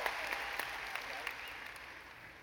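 A short burst of applause from a small group, steady dense clapping that tapers off slightly toward the end of the couple of seconds.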